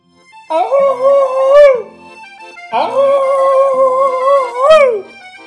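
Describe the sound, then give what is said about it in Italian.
Two long, eerie, inhuman howls made with the throat like the call of a large owl, each held steady at a mid-high pitch before swelling and bending upward at the end; the second is longer and loud, with no voices. “E quando la bella sentì stropicciare a terra, fece un verso con la gola come fa il civettone, un urlo lungo, disumano.”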